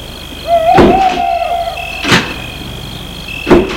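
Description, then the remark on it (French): Car doors open and shut as people get into a car, with three solid thunks spaced about a second and a half apart. A thin squeak or chime sounds near the first, over a low steady background hum. “Ils entrent dans la voiture.”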